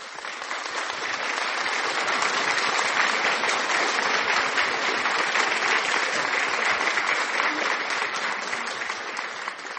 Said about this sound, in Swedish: Och idag så är det tisdag den 14 juli och det är kronprinsessans födelsedag. Det är fantastiskt och Folke har namnsdag. Så vi tar har ett dubbelt applåd och hurra idag.